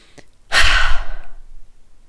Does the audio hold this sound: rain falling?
no